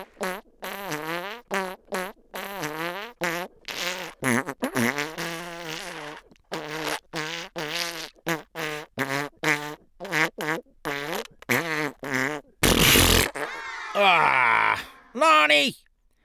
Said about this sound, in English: farting jingle bells.